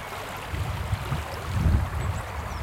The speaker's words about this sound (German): Malerisch und verwildert plätschert der kleine Fluss Fane zwischen der nordirischen Grafschaft Armagh und der irischen Grafschaft Monaghan. Das wird die Grenzlinie zwischen dem Vereinigten Königreich und der Europäischen Union.